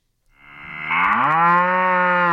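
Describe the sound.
A person imitates a cow with one long, loud moo that swells and rises in pitch before holding steady for about two seconds, with no other sounds.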